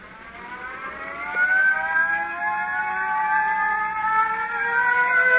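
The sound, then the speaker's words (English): A crash alarm siren, set off with the crash button at the Rockford control tower during a plane emergency, wails steadily, its harmonic tone slowly climbing in pitch and holding loud for the full stretch, with no voices over it. “You better hit the crash button.”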